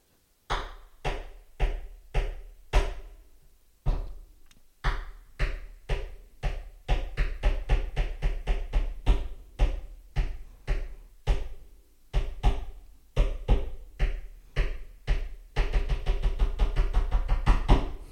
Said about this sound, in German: Das Schlimme ist, ich kann den Rhythmus, den er damals in der 5. Klasse diktiert hat, heute noch. Ich krieg den jetzt noch mit einem Stift geklopft.